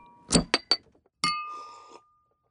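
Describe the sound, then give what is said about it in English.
Glasses clink together in a toast, three quick bright taps followed by a louder clink that rings out for under a second, with no talking. “Cheers. Cheers to that.”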